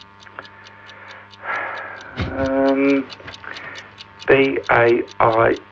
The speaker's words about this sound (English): Oh, thank you. Thank you, but the clock is ticking.